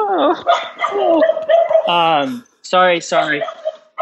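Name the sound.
dogs barking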